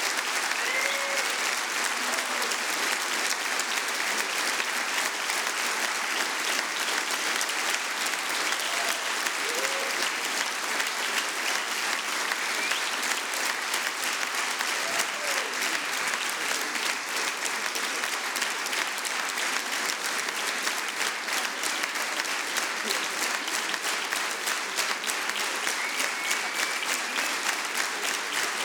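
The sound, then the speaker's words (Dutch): Sustained audience applause for the performers and technician at the end of a live stage show, a dense steady wash of many hands clapping that stays loud and even for nearly half a minute, with no pauses or voices breaking through. “Applaus voor de Mongool.”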